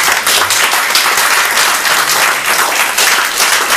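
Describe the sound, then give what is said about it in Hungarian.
Sustained audience applause at an art exhibition opening for a painter in the Emeleti Galéria: a dense, steady wash of many hands clapping at an even loudness with no voices standing out. “Azt hiszem, hogy tapsot rögtön meg is érdemel.”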